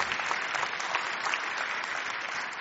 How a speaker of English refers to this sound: Could you give Him a praise this morning with just a clapping of your hands? Hallelujah.